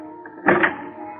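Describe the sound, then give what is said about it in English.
A key turns in a door lock, giving a brief double clack of the mechanism that quickly fades, heard over a steady low hum with no talking. “All start when a door is unlocked by...”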